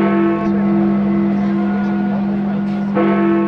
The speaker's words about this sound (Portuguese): Desta vez, as badaladas do Big Ben tiveram um duplo significado. Marcaram não só o início de um novo ano, mas também o começo da nova relação entre o Reino Unido e a União Europeia.